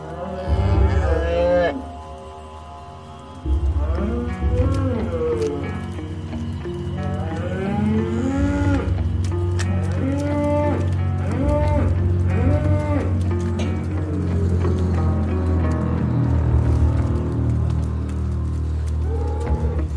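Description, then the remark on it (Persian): Several cows moo loudly and repeatedly in overlapping, drawn-out calls, with a constant low hum and shuffling of a cattle barn underneath. “شانتیا توی گاوداری توی قفسه.”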